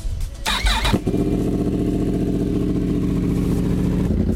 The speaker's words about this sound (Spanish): Ah, eso suena a moto potente. Una Yamaha. Te iba a decir Triumph, Yamaha. Una Yamaha.